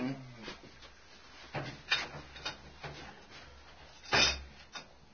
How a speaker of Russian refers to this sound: Да, слышите, как задвигается дверь ангара. Ага. Задвигается.